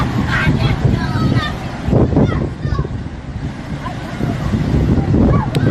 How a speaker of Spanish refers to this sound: Así suena el agua arramplando con todo a su paso.